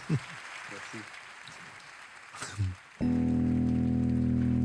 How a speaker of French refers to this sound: on fait applaudissement de confiance avant qu'il chante.